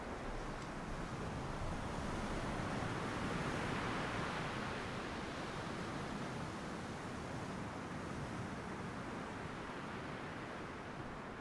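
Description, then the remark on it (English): A steady, soft wash of small sea waves on the shore, a continuous hiss that swells gently for a moment before settling back to an even roar, with no voices. “The little waves now having more definition and motion.”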